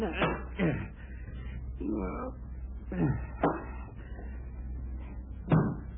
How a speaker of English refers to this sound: Knocked the book off Dean's night table. Oh, all right. Sounded like you were wearing 3 slippers.